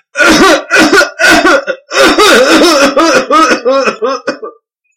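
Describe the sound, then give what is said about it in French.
A voice imitates a crocodile coughing: a loud run of about nine voiced, rasping cough bursts, coming quickly at first, then spacing out and fading weaker toward the end. “Et le crocodile, sous son lit, était plein de fumée. Il a commencé par tousser.”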